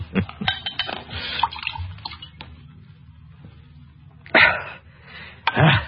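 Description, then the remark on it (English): A bottle is opened and wine is poured at a bar, with gurgling and splashing liquid, a few sharp clinks, a quieter stretch, then two more short bursts of pouring near the end. “Help me open the bottle.”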